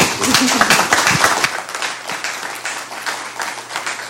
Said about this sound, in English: so I think we should all thank her with a round of applause, maybe.